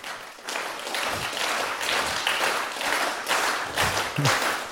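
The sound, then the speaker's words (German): Sustained applause from an audience welcoming a speaker at a talk, a dense wash of many hands clapping at steady volume for several seconds, with no one speaking over it. “Einen großen Applaus bitte.”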